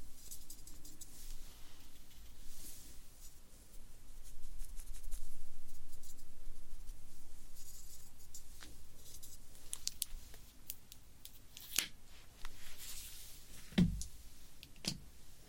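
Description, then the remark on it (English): Steady scratching of a pencil moving across paper in continuous strokes, broken by a few sharper taps and clicks near the end, with no one speaking. “So when I feel like I want more pencil, take it from me and apply wherever I want.”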